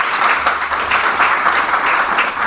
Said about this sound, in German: Jetzt stelle ich euch die Frage und jetzt müssen nur die klatschen, die die Antwort als Ja beantworten würden. Also, wer findet, dass er noch mehr regionale Lebensmittel einkaufen könnte? Klatschen.